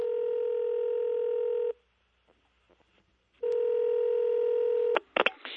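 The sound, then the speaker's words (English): Two sustained electronic telephone keypad tones, each held for almost two seconds with a quiet pause between them, followed by a few sharp clicks and clatter at the end. No talking. “I think it's time for a phone call.”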